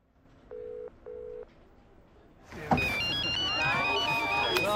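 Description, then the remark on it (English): Two short electronic ring beeps sound, then a mobile phone's melodic ringtone plays loudly amid the chatter and bustle of a crowded party reception. “At the reception, his son's phone begins to ring.”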